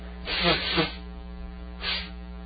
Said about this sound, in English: I'm getting hay fever, got to blow my nose, hold on for a minute.